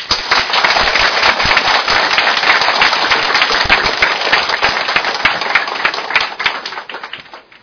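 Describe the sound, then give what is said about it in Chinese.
A crowd breaks into steady, dense applause to welcome a bureau director to speak, many hands clapping at once in a loud continuous crackle that holds for several seconds before tapering off slightly at the end. “大家一个掌声来请贾局长。”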